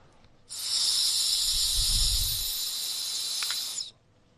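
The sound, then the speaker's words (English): A steady, airy hiss of breath blown into a breathalyzer lasts about three and a half seconds, with a soft low whoosh swelling midway, then cuts off abruptly. No one speaks. “See, when it says blow, then blow into there.”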